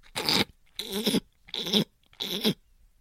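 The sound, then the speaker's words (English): A person makes a harsh, rasping noise at the back of the throat, like itching it, four times in a steady rhythm, each scratchy burst lasting about half a second with short silences between. “It's like clearing, you're like itching the back of your throat.”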